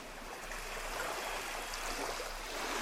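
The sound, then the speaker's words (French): Small waves wash into a small cove at high tide at the Barre d'Étel in Brittany, France, on a sunny day, in a steady, unbroken rush of water, even in loudness throughout, with no voices. “Les vagues viennent mourir à marée haute dans la petite crique sur ma droite.”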